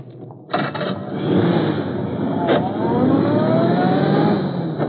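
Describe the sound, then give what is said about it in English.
A car engine roars to life and revs hard, its pitch climbing steadily as the car, with a man forced inside, accelerates away. The sound is loud and continuous, with no voices. “that was Ed Lowry they took in that car”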